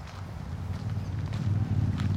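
Steady crunching footsteps on a gravel path at the Nieuwe Ooster cemetery, walking at an even pace toward a monument, with a low rumble of background noise underneath and no talking.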